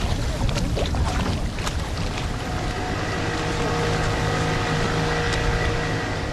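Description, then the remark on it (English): Motorboats giving tourist rides drone across a deep blue crater lagoon with two small islands, a steady engine hum with faint tonal whines, joined by splashing water and a breezy wash throughout. “Motorboats whiz by as tourists line up, waiting to take a ride on the lagoon's clear waters.”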